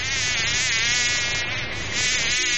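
A fly buzzes loud, a steady, high-pitched whine with no speech, dipping briefly near the middle before droning on for the rest of the moment.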